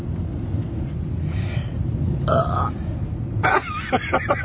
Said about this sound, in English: Can you belch? Can you belch like burp? Can you burp?